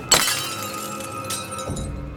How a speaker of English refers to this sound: The glass slipped out of his hand. It shattered on the floor.